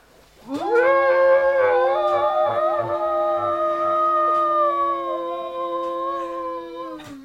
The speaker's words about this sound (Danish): Nu, jeg vil gerne kigge dig i øjnene, mens vi skriger, hvis du tør.